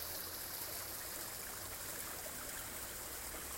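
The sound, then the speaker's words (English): Steady, continuous rush of a waterfall splashing into a pond in Northern California, a broad even hiss that holds constant throughout with no pauses, soft, with no voices. “As I record this meditation for you, I'm sitting by a beautiful pond with a waterfall in the background, Northern California.”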